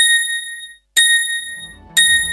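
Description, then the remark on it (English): Three bright, ringing bell tones of a speaking clock voiced by Tinkerbell, marking 7 o'clock precisely, struck evenly about a second apart, each sounding loud before fading, with no voices. “At the third bell, the time will be 7 o'clock precisely.”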